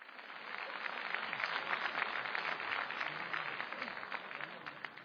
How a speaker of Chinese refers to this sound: 谢谢大伙的掌声鼓励啊，来的朋友不少。